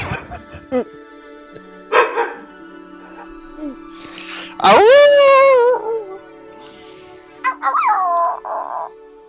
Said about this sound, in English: Sound like a handbag dog.